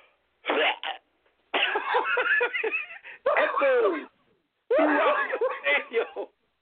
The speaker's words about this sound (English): There is a pause throughout the stadium as this man sounds like he just coughs up a lung.